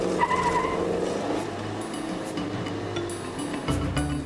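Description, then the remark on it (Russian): A car races along at speed at night, its engine droning loudly and steadily with a whining pitch and rushing road noise, with no voices. “Машина идет безукоризненно. Колеса совсем не стучат.”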